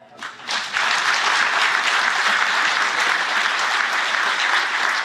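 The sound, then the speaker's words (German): Applause from an audience asked to clap if they like going to the market starts with a few scattered claps, then swells within a second into steady, dense clapping that holds at an even level to the end, with no talking over it. “Kann nur mal im Vergleich einmal alle klatschen?”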